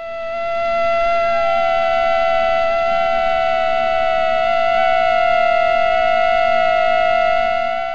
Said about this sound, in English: During courtship, the mosquitoes synchronize their wing beats and match certain high-frequency overtones. Cater says the result sounds like two instruments tuning to one another.